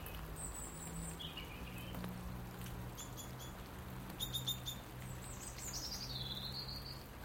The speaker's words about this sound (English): To hear the birds.